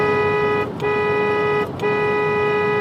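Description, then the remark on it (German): A loud car horn blares almost continuously, broken by two brief pauses, like a driver leaning on the horn in traffic. No one speaks. “Boah, und was machen diese ganzen Autos hier? Bin ich denn nicht die Einzige auf der Straße?”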